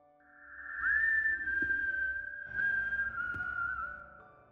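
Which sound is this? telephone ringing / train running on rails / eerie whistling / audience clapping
eerie whistling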